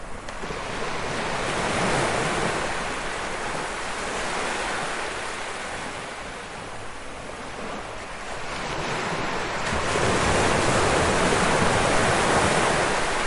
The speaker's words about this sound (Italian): Sì, il mare. Il Mar del Nord abbraccia St. Andrews, che è caratterizzata da due spiagge lunghissime e spettacolari, East Sands e West Sands.